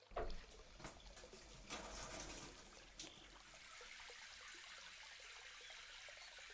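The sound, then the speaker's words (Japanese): Water pours and splashes, rinsing shampoo foam off hair: a few uneven gushes at first, then a steady, soft rushing flow that continues to the end. No one speaks. “泡、流していきますね。”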